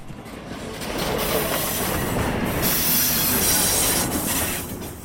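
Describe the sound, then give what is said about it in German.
A freight train of 30 wagons from Basel rolls steadily into the Limmental shunting yard in Switzerland at 5 in the evening, its wagons rumbling and clattering continuously with a faint high squeal of wheels, loud, no voices. “Auf dem Rangierbahnhof Limmental kommt der Zug mit 30 Wegen von Basel an.”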